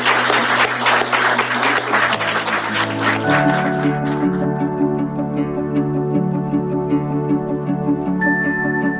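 An audience breaks into steady, dense applause for a few seconds at the end of an interview, then the clapping gives way to music with sustained tones and a ticking rhythmic beat.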